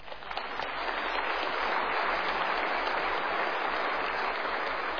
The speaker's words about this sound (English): Give them a wee clap.